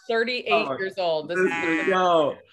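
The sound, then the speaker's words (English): A person imitates a goat with a string of wavering, nasal bleats, loud, delivered in quick bursts over a couple of seconds. “Goat noises.”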